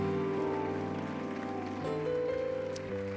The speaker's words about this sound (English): Can we do that one more time? Can you clap your hands? Can you give him all the glory and all the honor?